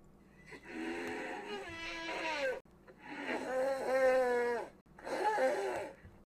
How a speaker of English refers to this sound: In King Kong from 2005, the Brontosaurus were voiced by elephant nasal trumpets.